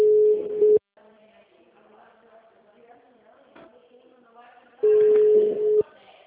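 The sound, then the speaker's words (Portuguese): A phone line rings back twice, each steady electronic tone lasting about a second, separated by a roughly four-second pause filled with faint background hiss and murmur. “Estaba ligando esses aqui, tá?”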